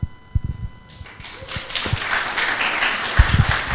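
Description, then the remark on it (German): An audience breaks into applause, building after about a second into a dense, steady wash of clapping, with a few low thumps near the start and end. “Diesen Applaus geben wir unserem Herrn weiter, der die ganzen Wunder tut.”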